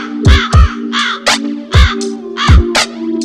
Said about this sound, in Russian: Над лужей крови ворон закаркал